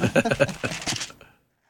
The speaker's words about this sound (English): I'm hearing pages turn. Anybody else looking this up? I am.